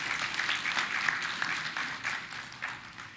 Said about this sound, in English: So we're grateful today for all of the mothers and all of us. Let's give the mothers a hand clap. Amen.